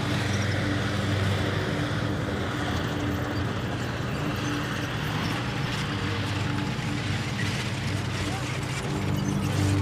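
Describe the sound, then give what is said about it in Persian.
A garage door grinds open with a steady mechanical rumble and rattling clatter, loud, running continuously for about ten seconds with no pauses. “باشه برو به سلامت، در گاراژ برات باز کن.”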